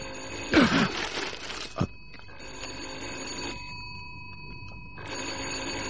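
An old-fashioned telephone bell rings in repeated bursts, three loud metallic trills separated by short pauses, with no voices present.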